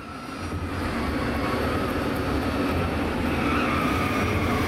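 A security van skids on an airport runway, veering aside to avoid a collision as a plane crosses the runway between it and a Swiss cargo plane, a loud, steady wash of engine noise and tire friction that swells in the first second and holds without any voices.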